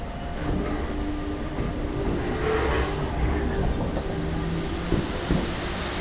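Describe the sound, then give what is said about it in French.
A suburban commuter train on RER line B rumbles steadily at the old Saint-Rémy-lès-Chevreuse station, the line's terminus, with a low droning hum, faint electric whine and a couple of sharp metallic clunks near the end; no one speaks. “Alors aujourd'hui, on est dans la gare de Saint-Rémy-les-Chevreuses. C'est une gare ancienne, c'est la ligne B du RER qui la dessert, elle en est le terminus.”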